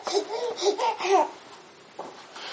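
A baby babbles in a few short, high-pitched bursts over about a second, fairly clear, then quiet follows with only faint background noise and a brief soft sound near the end.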